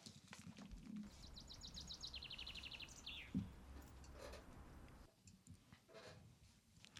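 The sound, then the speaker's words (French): Birds sing outdoors, with a quick, rapid trill of high chirps that slides downward, then scattered fainter calls over a steady low rumble and occasional clicking. “oiseaux parce que ça m'apaise.”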